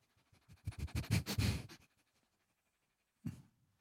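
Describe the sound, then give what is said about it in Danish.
A burst of rapid sniffing as a person smells their own clothes to check whether they smell of fish: several quick inhalations over about a second and a half, followed by a pause and one more short sniff, with no talking. “Nej, lugter jeg af fisk? Oh, the fish. Lugter jeg af fisk? Af fisk? Ja. Jeg kommer lige over. Ja. På mit tøj.”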